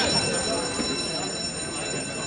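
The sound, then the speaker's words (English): Steady mechanical rumble with a sustained high-pitched whine from an aging aerial ski tram in Wyoming going up Rendezvous Mountain, the ski lift with the highest rise in America, continuous, with faint voices murmuring in the background. “He sent us the sounds of the tram.”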